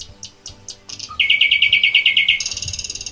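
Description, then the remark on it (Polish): A nightingale sings alone, opening with a few soft whistled notes, then launching into a loud, rapid run of repeated bright notes and a higher buzzing trill, clear. “To jest słowik.”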